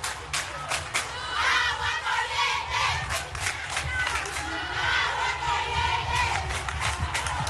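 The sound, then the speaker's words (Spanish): A crowd of students at the University of Camagüey, Cuba, protesting blackouts and lack of water on a Tuesday around 7 p.m., shouts and chants together in a loud, continuous roar of overlapping voices, with sharper cries rising above the sustained din throughout. “Ayer martes, sobre las 7 de la noche, estudiantes de la Universidad de Camagüey protestaron por los apagones y la falta de agua en el centro universitario.”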